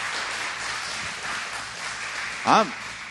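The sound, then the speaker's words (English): A church crowd applauds for everybody who serves behind the scenes, with steady, even clapping that holds at a constant level throughout, and a single voice cries out in a short rising-and-falling whoop near the end. “I want you to give a clap right now to everybody that serves behind the scenes.”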